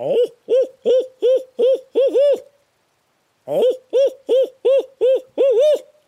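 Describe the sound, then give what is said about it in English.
A person imitates an owl with a loud hooting locator call, used in the early morning before daylight to get turkeys to answer: two rhythmic runs of about seven quick hoots each, the last hoots drawn out, separated by a brief silence. “Early morning is the owl call.”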